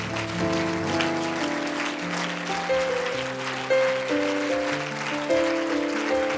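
An audience claps steadily and enthusiastically, giving the Lord a hand clap of praise tonight; dense hand clapping with sustained organ chords playing underneath throughout.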